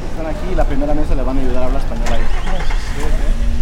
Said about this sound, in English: A steady flow of cars stream into the parking lot of Rogers High School while student staff and other community members in yellow high-vis vests direct traffic and distribute supplies like water, diapers, and flashlights as people drive up.